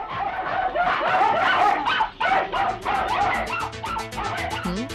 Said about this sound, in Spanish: Así ladran Luca y también Keisha. Ah, muy bien. ¿Vale? Luca, de 4 años. Keisha, de 12. Perros ambos.